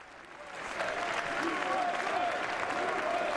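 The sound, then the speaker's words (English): A large crowd applauds loudly as President-elect Trump is officially introduced ahead of the swearing of the oath, a dense, steady wash of clapping that swells in the first second and holds strong throughout, with faint cheering voices mixed in. “We just heard a very loud applause.”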